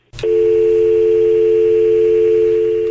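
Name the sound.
phone call disconnected tone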